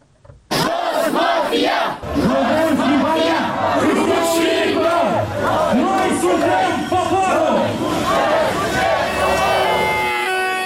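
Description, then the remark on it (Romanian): A large crowd at a political street demonstration in Chișinău, for and against changing the electoral system, shouts and chants continuously, many voices merging into a loud, rising-and-falling roar with rhythmic bursts of yelling, sustained at full volume after a brief quiet start. “Deși fusese anticipat, votul din Parlament a provocat o furtună politică în Chișinău, unde au avut loc demonstrații pro și contra schimbării sistemului electoral.”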